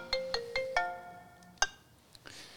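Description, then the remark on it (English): A phone ringtone plays a quick melodic run of bright electronic notes, four rising tones followed by a sustained chime, then a final tone trailing off into faint background noise. “That could be Andrew Gowes ringing you, Don.”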